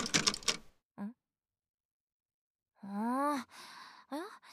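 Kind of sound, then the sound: household object, key rattling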